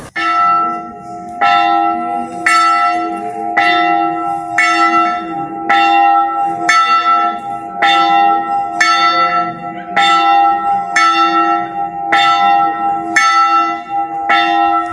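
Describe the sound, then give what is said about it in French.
A church bell tolls steadily outdoors, roughly once every second and a half, each strike ringing out with bright overtones and a long sustained hum that overlaps the next stroke. Loud, with no voices. “Christian va peut-être sonner encore une fois la cloche pour cette fin d'émission.”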